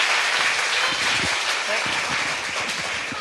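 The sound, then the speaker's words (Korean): Steady applause from a sizable crowd at a lecture, given to encourage the pastor before the second lecture begins, a dense wash of clapping that holds at an even level throughout, with faint voices murmuring underneath. “우리 박수로 한번 격려를 해주시고 두 번째 강의 시작하겠습니다.”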